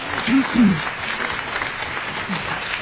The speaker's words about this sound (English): So, again, everybody who was at all involved in that effort, a big round of applause. You really did an amazing thing.